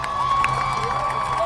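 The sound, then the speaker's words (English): A crowd cheering on the runners at the Boston Marathon, a dense wash of voices with scattered high shouts and whoops, including children's yells, loud and continuous throughout with no single speaker standing out. “The crowd cheering on the runners in today's Boston Marathon.”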